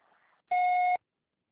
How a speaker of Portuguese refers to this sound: Após o bip, deixe seu nome e telefone que brevemente lhe retornarei.